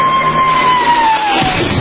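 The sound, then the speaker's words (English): A huge crowd of 25,000 extras roars and cheers in a dense, steady wash of noise, while a single thin whistle-like tone glides slowly downward across it. “Then the Royal Canadian Air Force will fly overhead towing a 10-ton maraschino cherry, which will be dropped into the whipped cream to the cheering of 25,000 extras.”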